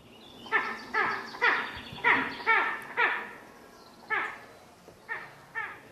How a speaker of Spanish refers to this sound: Ahora nos lo cuentas, pero vamos a escuchar para que la gente que nos esté escuchando, los que estéis aquí, sepáis, por ejemplo, a cuál me refiero, al del águila imperial.